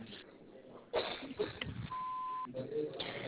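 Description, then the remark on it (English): A single steady answering-machine beep, about half a second long and fairly loud, sounds over a muffled, narrow phone line with faint voices and background noise around it. “But after the beep, please leave your name and number.”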